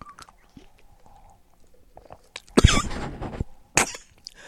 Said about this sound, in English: Sorry, excuse me. There is a cough. Hold on a second. I'm fine. I'm fine, but I don't know why my throat's acting up.